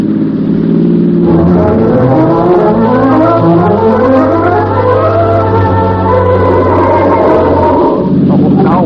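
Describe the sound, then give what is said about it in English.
A car engine roars at high speed as the car is driven hard north, racing the Limited train. Its pitch climbs steadily through rising harmonics as it accelerates, then drops and revs again near the end. The sound is loud and continuous, with no talking. “We're racing the Limited north. Drive. Drive like you've never driven before.”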